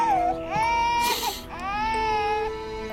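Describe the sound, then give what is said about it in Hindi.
A little girl cries loudly and steadily after spilling a little milk, with high, wavering wails broken by brief catches of breath, continuing throughout with no one speaking. “रो क्यों रही है?”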